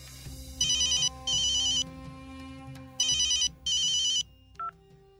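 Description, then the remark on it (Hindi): A telephone rings in two fairly loud double bursts, each a pair of bright electronic trills, followed by a short click or beep as a police inspector picks up a call from a doctor. No one speaks. “अरे डॉक्टर पाल, हम आप ही को फोन लगाने जा रहे थे, कैसे याद किया इंस्पेक्टर दिगंबर को है?”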